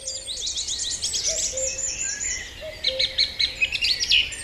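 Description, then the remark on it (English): A dawn chorus of early morning birdsong, as broadcast on RTE Radio 1's Mooney Goes Wild, with several birds singing at once in overlapping trills and chirps, a lower whistling call weaving beneath brighter rapid phrases, steady, no voices. “For almost 30 years now, Mooney Goes Wild on RTE Radio 1 has broadcast, in some manner, shape or form, the sound of early morning birdsong.”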